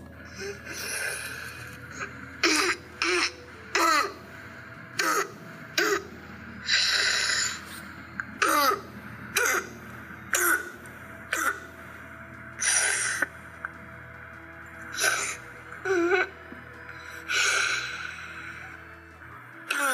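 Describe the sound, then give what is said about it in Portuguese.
A child having a laryngitis attack coughs repeatedly in harsh, barking bursts, with strained, wheezy gasps for breath between them, steady throughout, with no talking. “Eu queria que vocês prestassem atenção, né, nessa gravação que eu vou colocar agora, de uma criança que está com uma crise de laringite, para vocês ouvirem como é que é a tosse dela, tá bom?”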